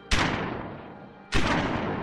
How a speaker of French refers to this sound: Deux autres coups de feu retentissent.